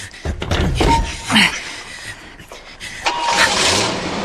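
A car door thunks shut and an engine starts up, then the car revs and drives away, its noise rising and fading. No one speaks.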